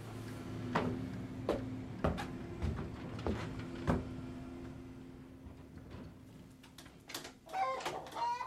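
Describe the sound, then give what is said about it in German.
A flock of chickens on a tractor cluck in short, scattered bursts over a steady low background hum, with a flurry of higher, sharper squawks near the end. “Ja, na ja, ich verdammtes Hühnervolk. Alter, ab den Trecker.”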